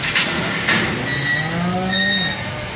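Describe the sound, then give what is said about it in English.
A single long, low moo from a steer rises and falls over a couple of seconds in a livestock barn housing sheep, goats and steers, with a few sharp clanks and a faint higher tone in the background. “Right now, in the barn, it gets really loud because they have sheep and goats and steers who get really, really wild, and it gets kind of exciting because the steers get ready to run.”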